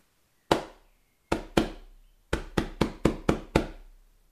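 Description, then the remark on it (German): Hands beat a stubborn pillow in a rhythmic pattern of nine sharp thumps: a single hit, a quick pair, then a rapid run of six, with no talking. “Da hilft alles Schütteln nix. Hier müssen wir klopfen.”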